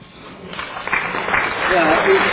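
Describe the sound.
An audience breaks into applause, a dense crackle of many hands clapping that swells and grows louder over a couple of seconds, with faint voices mixed in.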